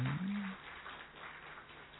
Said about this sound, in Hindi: भाई ताली तो बजाओ जरा।